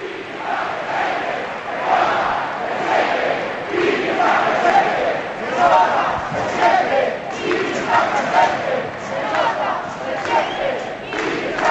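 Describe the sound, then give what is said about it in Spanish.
A large crowd chants "se nota, se siente, Kini está presente" together in steady rhythmic surges as Kini's car departs, with applause running underneath from his former Sporting teammates Joaquín, Ferrero, Jiménez and Cundi. The sound is loud and dense throughout, like an outdoor gathering of many people. “Todos sus compañeros le aplauden, Joaquín, Ferrero, Jiménez, Cundi, los míticos sportinguistas.”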